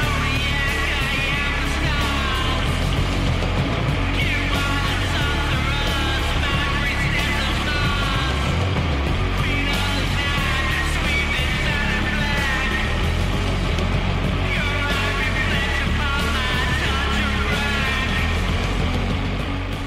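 A doom metal song plays: a thick, loud, unbroken wall of heavily distorted guitar and bass, slow and droning, with wavering higher tones riding over the sludgy low end throughout.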